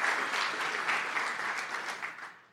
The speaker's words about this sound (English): So I think we ought to give them a hand clap right here and thank them for what they've done.